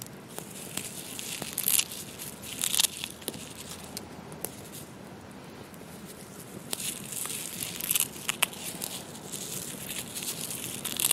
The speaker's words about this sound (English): After setting a small pot of water on the fire to boil, I pulled the pine needles apart into smaller pieces and added them to my mug.